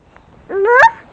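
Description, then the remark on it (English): A single loud, nasal honk from a duck, rising in pitch over about half a second before cutting off, with no talking around it. “Duck. And a rooster and a cow. Moo. Mm-hmm. And chickens.”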